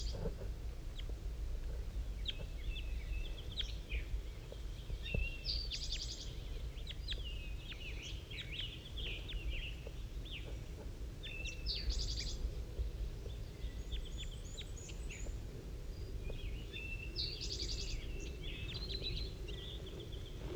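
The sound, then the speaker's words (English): Soft, high bird calls chirp back and forth in short, scattered bursts as the bird 5-3 calls to a wild bird that has just landed in a pine tree, over a steady low rumble, with no one talking. “5-3 is calling to it.”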